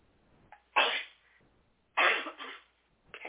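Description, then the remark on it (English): Two loud sneezes about a second apart, each a sharp breathy burst, followed by the start of a third, with no talking in between. “And I really, sorry, I'm going to sneeze.”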